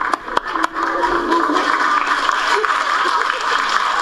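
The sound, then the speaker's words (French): A crowd applauds in a steady, dense wash of clapping, with a few sharper individual claps near the start, moderately loud and continuous throughout. “Ou même applaudir.”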